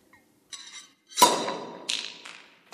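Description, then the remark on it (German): A champagne bottle is sabered, the champagne saber run along the bottle's seam up to the lip so the pressure inside tears off the whole neck with the cork: a short scraping slide, then a sharp loud crack with a ringing, fizzing decay, followed by two bright hissing bursts. No one speaks. “Und durch den enormen Druck in der Flasche wird der gesamte Flaschenhals mit dem Korken abgerissen.”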